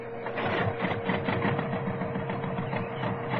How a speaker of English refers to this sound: Generator, start up! Well, that's working all right. Start up tractor motor!